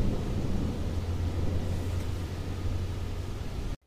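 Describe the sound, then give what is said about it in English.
Rain falls and wind shakes the shutters in a steady, heavy storm roar with a deep low rumble like thunder. It holds at a constant loud level, then cuts off abruptly. No voices. “It looks like it's getting ready to storm.”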